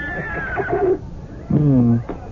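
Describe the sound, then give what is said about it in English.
A horse snorts and blows twice, a longer rising-and-falling burst followed by a shorter, deeper one after a brief pause, fairly loud with no talking. “Oh, will you listen to how he snorts with pride, Your Majesty?”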